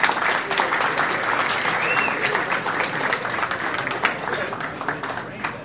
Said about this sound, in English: And so a big round of applause, first of all, for everyone who helped with the water cleanup.